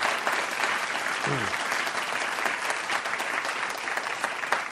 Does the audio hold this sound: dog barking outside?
no